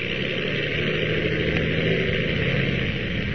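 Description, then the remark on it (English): A propeller plane, the Ottawa plane, taking off: its engine drones steadily at a constant loudness, a dense rumbling roar with a low humming undertone and no voices. “As our last episode ended, the Ottawa plane was just taking off when...”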